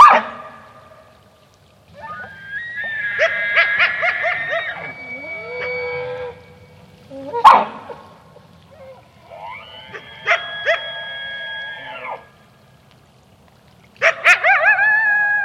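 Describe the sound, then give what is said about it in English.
Females threatened by a coyote give loud, harsh alarm barks in several drawn-out, harmonic bursts with short gaps between them, forceful, with a faint low rumble underneath and no talking. “Females saw the coyote, were so threatened or unsure about it, they started giving this really loud alarm bark, which I had never heard of, and it's so loud.”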